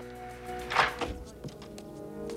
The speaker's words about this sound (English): She steps off the main corridor and puts her pass into a reader, then opens a door marked B, maximum security.